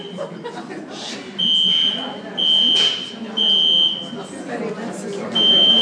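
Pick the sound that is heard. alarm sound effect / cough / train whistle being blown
alarm sound effect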